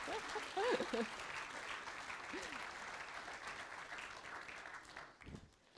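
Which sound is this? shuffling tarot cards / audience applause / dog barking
audience applause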